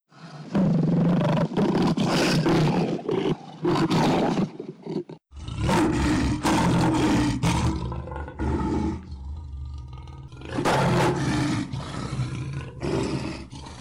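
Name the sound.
lion roaring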